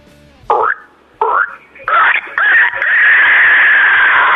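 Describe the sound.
A man imitates a pig with his voice: two short, throaty grunts followed by a long, loud, strained squeal that rises and holds steady at a high pitch.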